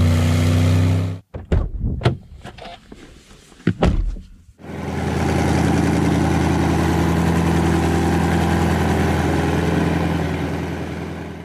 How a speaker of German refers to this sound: Ist das alles ein Auto gewesen? Das war alles ein Auto.